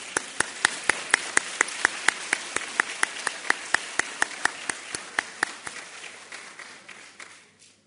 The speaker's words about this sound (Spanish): Un aplauso.